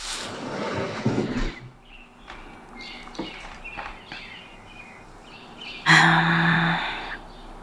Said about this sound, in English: Okay, it is around 5:16 a.m. Oh, I can hear birds outside. I'll open the window so you can too.